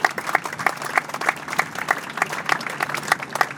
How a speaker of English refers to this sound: Let's give them a round of applause, please.